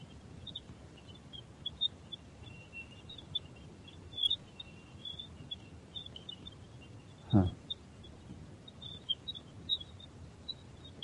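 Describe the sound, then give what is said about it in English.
Radio emissions from Jupiter rendered as sound: a steady crackling hiss scattered with faint, bird-like high chirps, and one louder swooping burst partway through. No voices. “But it's actually Jupiter. Radio waves from Jupiter.”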